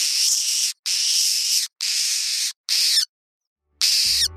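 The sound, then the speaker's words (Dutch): A wryneck gives a run of harsh, hissing bursts, each under a second long, repeated in a steady stuttering rhythm with short gaps, ending with a faint low rumble. “Je denkt natuurlijk gewoon aan een hele slecht startende motor van een auto die maar niet op gang komt. Maar het is de draaihals.”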